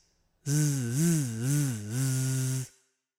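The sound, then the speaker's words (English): A voice imitates a bee with one sustained, low 'zzz' buzz lasting about two seconds. The pitch wavers up and down in three gentle swells before the buzz cuts off. “Did you ever hear a bee buzz? A bee buzz like this?”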